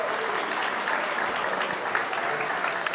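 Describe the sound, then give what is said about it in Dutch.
A crowd at a family church service claps for the children: a steady, dense, continuous wash of many hands at an even loudness throughout, with no voices standing out above it. “Geef ze even een applaus, jongens. Geef ze een applaus.”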